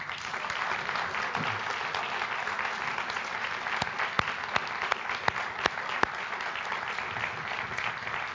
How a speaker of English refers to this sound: So I think it would be wonderful just to congratulate them once again with a clap.